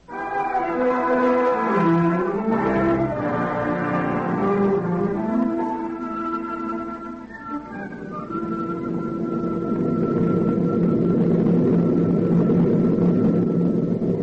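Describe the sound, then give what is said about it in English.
A steady, loud aeroplane engine drone heard aboard an aeroplane in flight to New York fills the whole stretch, with layered humming tones that waver and shift in pitch early on, then settle into an even, continuous roar. “Dearest Mama and Papa, I am writing this on the aeroplane, and we'll mail it to you when we reach New York.”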